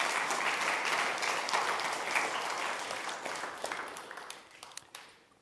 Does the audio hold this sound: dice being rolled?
no